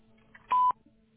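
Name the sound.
telephone keypad tones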